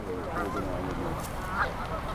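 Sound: geese honking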